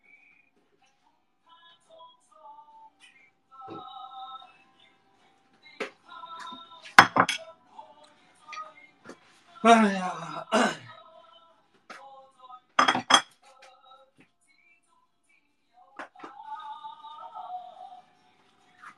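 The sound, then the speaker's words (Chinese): A cooking pot being scrubbed and washed at the stove: irregular metallic clanks and clinks with a few louder scraping bursts, and a person briefly exclaims once. “又到了无聊的刷锅环节，看着这个灶台，我真是一点都不想动。”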